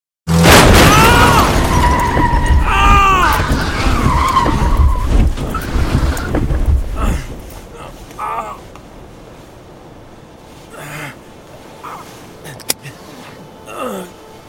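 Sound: car approaching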